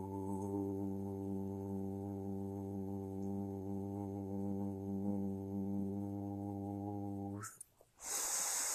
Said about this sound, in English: Taking a deep breath in through your nose, out through your mouth, and now breathing in through your mouth.